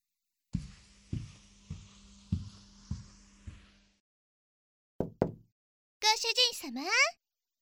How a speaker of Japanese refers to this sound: ご主人様の部屋の重厚な扉をノックする小柄な美少女こそ、屋敷の筆頭メイドのマリー。